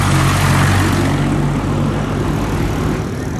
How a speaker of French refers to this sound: Attention. Ah oui, là, je n'avais pas regardé du bon côté. Il y a l'énorme camion.